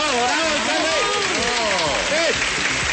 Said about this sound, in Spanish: Alcalde, bienvenido, fuerte el aplauso para el alcalde.